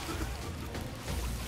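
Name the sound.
bailing water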